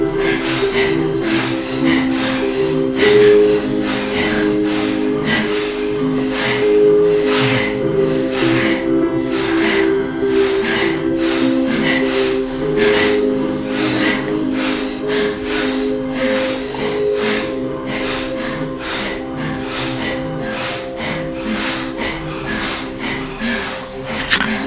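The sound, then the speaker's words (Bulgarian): Slow, deep breathing rises and falls in a steady, calm rhythm over a sustained, humming musical drone, moderately loud, continuing throughout with no talking. “следва ритъма на това дишане. Спокойния, но и дълбок ритъм.”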